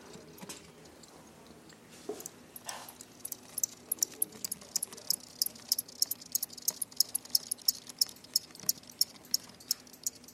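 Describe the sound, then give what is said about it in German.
Crickets about 2 cm long chirp in quick, rhythmic bursts from inside a 10 by 10 box, fairly clear, mixed with faint rattling and handling noises as the box is moved. No one speaks. “Also das ist jetzt hier so eine 10 auf 10 Dose mit so 2 cm großen Grillen da drin. Und die zwitschern so ein bisschen, man hört das auch.”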